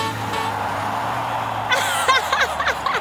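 monster truck engines roaring

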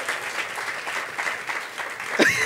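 audience applause and clapping

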